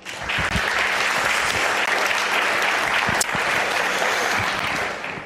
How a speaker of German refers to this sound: Einen dicken Dankeschön, Applaus an euch.